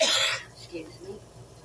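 A single sharp sneeze bursts out loud at the start, then fades into quiet background noise with faint murmuring in the background.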